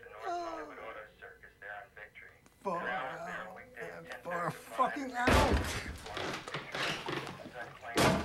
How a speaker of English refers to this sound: Baseball bat repeatedly smashes down on the answer phone.